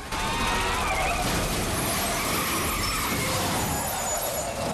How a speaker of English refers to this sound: Shaft manages to take out Peoples' driver just before the red car flips over and rolls.